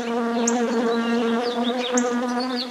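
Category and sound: insect, buzzing bees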